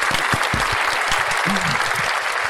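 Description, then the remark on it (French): Loud, sustained applause from a crowd, a dense wash of clapping filling the whole moment, with a brief voice or cheer rising faintly beneath it. “Un tonnerre d'applaudissements pour Monsieur Camille Poignant.”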